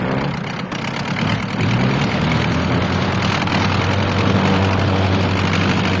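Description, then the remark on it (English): A World War I biplane engine starts and revs, a loud, continuous throaty rumble with a low, buzzing drone that wavers slightly throughout, with no voices. “He grimaces as the doghouse jolts violently with the force of the engine.”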